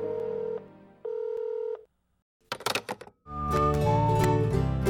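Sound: telephone dialing tones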